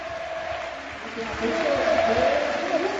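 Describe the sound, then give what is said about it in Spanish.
A large crowd of Celta fans at Balaídos stadium in Vigo applauds the substituted player Guidetti as he leaves, a dense, steady wash of clapping and cheering that swells louder partway through, with a commentator's voice running underneath. “Fíjate qué aplauso de Balaídos, que está totalmente volcado el municipal vigués y toda la afición del Celta con este jugador agradecido, levanta las manos dándole las gracias a toda la parroquia del Celta.”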